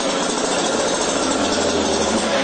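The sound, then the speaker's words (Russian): An angle grinder cuts steadily at a person's home during a visit by unidentified law enforcement officers, a loud, continuous harsh whine and gritty hiss that holds without a break for the whole stretch, with no voices. “Камера федерального канала, болгарка, не представившиеся сотрудники правоохранительных органов.”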